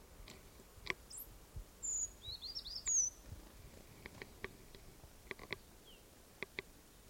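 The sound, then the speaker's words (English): A bird in a flock gives a short alarm call, a toot, amid a brief run of high chirps, faint, with scattered soft clicks and rustling in a quiet outdoor setting. “There was a toot there, or alarm call, by one of the birds.”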